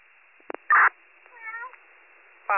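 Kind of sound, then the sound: animal, cat meowing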